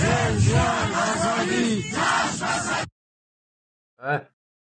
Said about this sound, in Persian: اینم تو این شعارهاشون هم مردم کردستان دارن همین رو فریاد میزنن.